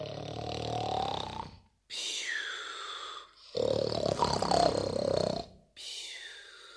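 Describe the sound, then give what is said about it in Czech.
A voice imitates the loud, rumbling snoring of a wolf asleep in a bed in a cottage: four long, growling snores in a slow rhythm with short silent gaps between them, forceful, with no other sounds around. “Slyší z chaloupky chrápání, poslouchá a myslí si, co to, že babička tak chrápe.”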